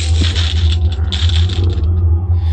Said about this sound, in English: And we are now in the entrance hall of the castle. And it also sounds like we picked up some money that was left lying around. Very good.